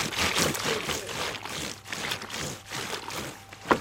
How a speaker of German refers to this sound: Erkennst du das noch? Das Waschbrettl. Ja! Gell? Hat deine Oma noch ein Waschbrettl gehabt?